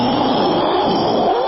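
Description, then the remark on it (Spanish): A person vocally imitates a loud thunderclap, producing a sustained, rough, rushing roar that stays steady and close for about a second and a half, with no speech. “Si oye un fuerte trueno, haga un fuerte trueno, por favor.”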